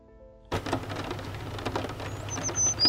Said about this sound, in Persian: بارون میباره.